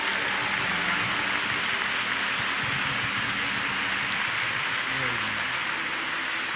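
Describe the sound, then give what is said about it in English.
A crowd claps steadily for several seconds, giving the Lord a hand clap of praise in a dense, continuous wash of applause with faint low voices or tones underneath. “Now give the Lord a hand clap of praise.”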